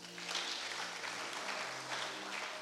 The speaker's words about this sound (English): Let's clap for them.